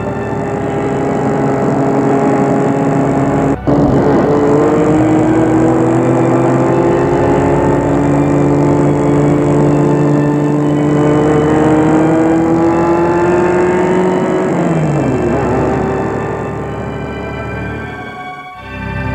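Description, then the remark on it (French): A car engine revs steadily as the vehicle drives along to a hospital outside the town, its pitch climbing gradually before the motor winds down near the end; loud, with no voices. “Elles y vont en voiture.”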